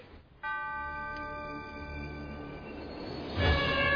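A small postal railway train runs steadily with a humming, whining motor over a low rumble. It starts abruptly and grows louder and noisier near the end, with no voices.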